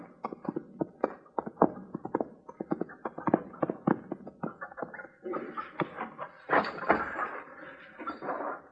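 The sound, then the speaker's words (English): Horse hooves clip-clop in a quick, uneven run of sharp knocks, giving way to a busier scuffling stretch of hoofbeats and movement near the end. No one speaks. “Your horse has scared it away.”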